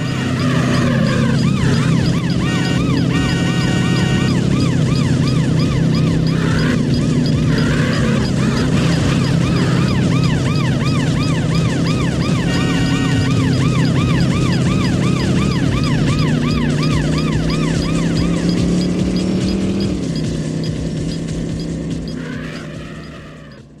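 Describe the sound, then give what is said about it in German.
In a racing video game, a police siren wails and yelps continuously over the loud, steady roar of a luxury sports car engine racing through traffic, both intense, with no talking, before the sound fades slightly at the end. “Du setzt dich in diesen Luxussportwagen, du drückst das Gaspedal durch, du rast durch eine realistische Landschaft, die Polizei im Nacken und dein Konkurrent an deiner Seite und dann guckt er, wer sich am besten durch den Verkehr schlägt.”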